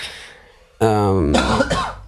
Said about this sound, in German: Hab gerade noch gehustet, falls man es gehört hat. Nee, hat man nicht gehört.